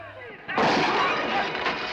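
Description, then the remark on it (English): After a quieter start, a single gunshot bursts in as Spitfire shoots a bottle out of Swain's hand, followed by a loud, sustained, noisy rush that fills the rest of the moment with no voices. “Swain finds a bottle and is about to strike when Spitfire shoots it out of his hand.”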